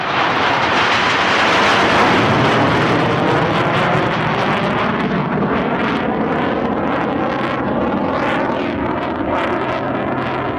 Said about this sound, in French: Tout commence peut-être ici, à Paris, le 21 avril 1986. Ce jour-là, 6 avions Mirage survolent le ciel de la capitale.